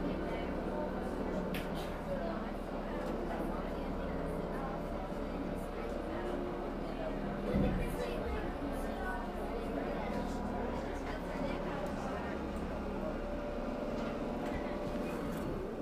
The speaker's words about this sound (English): Okay, let him get the boat tied up here now in just a moment or two, and we're going to let you get off.